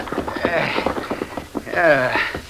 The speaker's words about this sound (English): Here and... comes the rig. Maybe we can get lift into San Felice. Hey, rein up a minute.